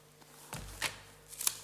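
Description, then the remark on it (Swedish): Paper rustles and flips in a few quick, crisp bursts as the pages of a Bible are turned rapidly, with no one speaking. “Bläddrandet i biblar, det har alltid fört fienden på flykten.”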